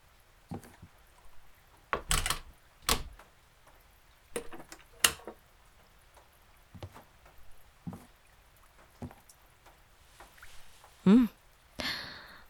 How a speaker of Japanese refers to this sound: ああ、後ろ扉を閉めてくれ。鍵もな。誰かが入ってきたら困るじゃろ。